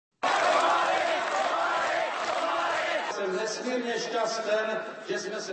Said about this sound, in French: La foule scande son nom le 27 novembre 1989 à Prague, alors qu'il s'adresse à elle pendant que le régime communiste achève de s'effondrer.